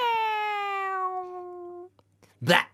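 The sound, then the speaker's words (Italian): A person's voice imitates a lovesick yowling cat, one long drawn-out caterwaul with a slowly falling pitch lasting nearly two seconds, followed by a brief breathy burst of noise. “visto che il cervo era innamoroso, facci quello del gatto innamoroso a sto punto.”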